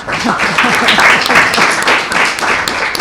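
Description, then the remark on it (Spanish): A crowd breaks into steady applause, many hands clapping in a dense, loud wash that holds for a few seconds with a murmur of voices mixed in. “Pues un aplauso, ¿no?”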